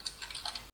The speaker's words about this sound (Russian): тоже тебя слышно, как ты стучишь по клаве?